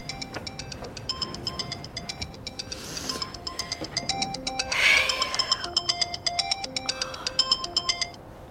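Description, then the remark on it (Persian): A mobile phone rings with a bright, repeating electronic melody of quick tonal notes, steady, with a brief softer rustle partway through and no speech. “موبایلش زنگ میزنه.”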